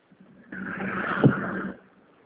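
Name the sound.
car driving in traffic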